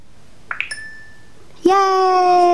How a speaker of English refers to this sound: Now it takes me back to the little bell you heard was to say that yes, I got the word right.